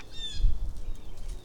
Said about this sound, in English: All I can hear are blue jays. And they're not talking about anything interesting.